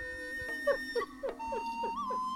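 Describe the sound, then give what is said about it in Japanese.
A fox cries out in a quick series of short, yelping calls, about half a dozen in a steady rhythm, fairly quiet and set against a sustained tonal hum. “キツネの鳴き声が響き渡ります。”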